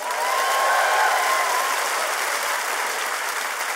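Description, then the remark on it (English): An audience applauds steadily as comedian Don Reed, Oakland's master storyteller, is introduced, a dense wash of many hands clapping at a constant, fairly loud level throughout, with a faint whistle-like tone early on and no one speaking. “Clap for you.”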